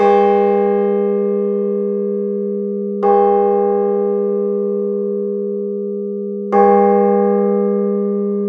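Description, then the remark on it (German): A modern, newly cast church bell bearing a peace dove and an inscription, intended for Maulbronn, is struck three times inside the church at slow, uneven intervals. Each blow rings out with a deep, powerful, penetrating tone that hums on without fading between strikes, and no one speaks. “Wenn man sie im Kirchenraum anschlägt, erklingt ein kräftiger und durchdringender Ton.”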